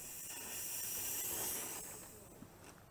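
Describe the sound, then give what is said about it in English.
A steam locomotive in full forwards gear lets out a steady rush of hissing steam as the regulator is opened a touch to move it forwards, swelling over the first second and a half, then slowly easing off, with a faint mechanical knock near the end and no voices. “If I open the regulator a touch, the engine will move forwards.”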